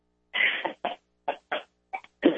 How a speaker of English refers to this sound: yes, when she was crying, she had the burp. Good girl.